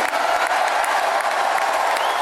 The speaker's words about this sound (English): So you hear him signing this in the Capital One arena with 20,000 people cheering.